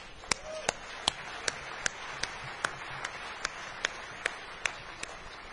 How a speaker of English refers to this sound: I think that's a record, so round of applause for that.